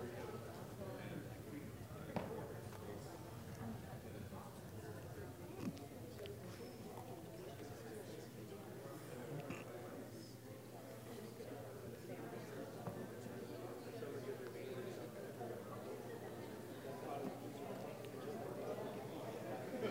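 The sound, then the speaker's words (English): A roomful of people talking at once in small table groups while brainstorming what children need: a steady, dense murmur of overlapping voices with no single speaker standing out, continuing at an even level throughout. “I love hearing that buzz in the room, and I hate to cut you off.”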